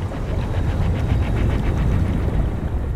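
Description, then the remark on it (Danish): A muffled, rumbling underwater whoosh with deep low-end churning and faint bubbling, steady and fairly loud for a few seconds, with no voices. “Når vi er under vandet, lad os lige prøve at dykke ned under vandet lige nu.”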